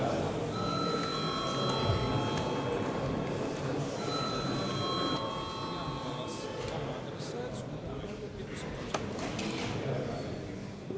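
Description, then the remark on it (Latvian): A parliament voting bell, rung to call a vote on a draft decision, rings in two sustained, steady-pitched electronic bursts, each lasting a couple of seconds, over a constant murmur of background chatter and faint clicks. “Šo lēmuma projektu iesniegus juridiskā komisija. Lūdzu zvanu.”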